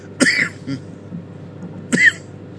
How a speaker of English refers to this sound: And there's that cough.